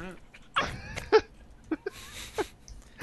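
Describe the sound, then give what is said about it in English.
A puppy yaps several times in short, high-pitched bursts spaced irregularly over a few seconds, moderately loud against a quiet background. “He agrees. Dog. Can't compete with the puppy.”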